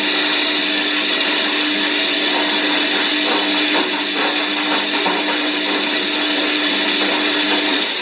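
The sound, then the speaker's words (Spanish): A washing machine spins at full speed, a loud, steady mechanical whir with a high-pitched whine that holds constant throughout, with no voices. “Hay momentos de desesperación donde te pones a dar tantas vueltas a la cabeza que pareces una lavadora en modo de centrifugación al máximo.”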